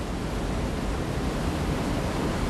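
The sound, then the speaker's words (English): A steady, powerful roar of water crashing down Niagara Falls, where 750,000 gallons pour over each second, loud and unbroken throughout, with dense rumbling low end and hissing spray and no voices. “750,000 gallons of water pour over these falls in a single second.”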